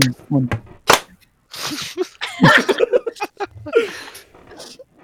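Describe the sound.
A single sharp clap from two pairs of hands striking together as one, a crisp burst standing out amid murmuring voices and brief laughter.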